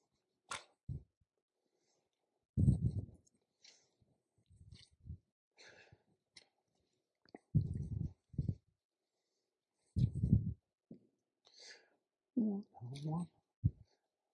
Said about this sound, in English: Look, I'm turning pages slow because I don't know. I got a new Bible and I'm getting old.